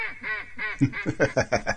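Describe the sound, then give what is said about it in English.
A pair of ducks named Amy and Rory quack loudly, a few drawn-out nasal calls giving way to a quick run of about six sharp quacks in a steady rhythm, with no voices. “They really are a pair of ducks.”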